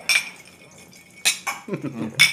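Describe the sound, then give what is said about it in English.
Glasses clinking together in a toast around a table, three bright, ringing taps spaced about a second apart, with a low murmur of voices in the background. “Well, cheers around the table.”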